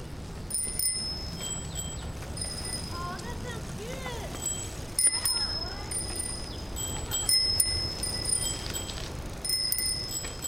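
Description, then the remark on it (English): Several bicycle bells, rung by children riding bikes in a group of six on a morning ride west on Maple toward Lafayette, ring again and again in bright, overlapping bursts over steady outdoor road noise, with faint children's voices calling out between the chimes. “Along the way, the children chime their bells and point out various things, like a gray squirrel chaotically scrambling out of the way and a flock of sparrows roosting under an eave.”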